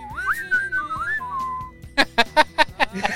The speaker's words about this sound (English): And then you can do it like when he picks it up a little bit. Yes. And he does that. That's kind of fun to whistle to. Yeah, yeah.